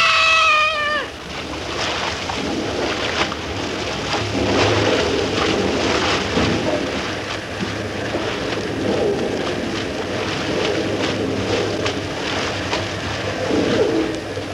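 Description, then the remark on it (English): A waterfall's roar, a dense, steady rush of water that fills the whole clip at an even, loud level, with a brief high, tonal call at the very start. “The roar of the falls is getting too loud.”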